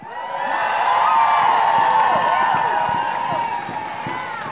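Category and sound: crowd, crowd cheering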